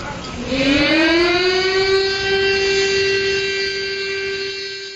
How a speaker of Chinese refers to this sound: 昨天上午10点，防空警报声响彻南京城上空，南京大屠杀死难者国家公祭仪式在侵华日军南京大屠杀遇难同胞纪念馆集会广场上举行。